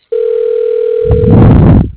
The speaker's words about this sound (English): Hate when they ring forever and like nobody ever picks up and there's no voicemail.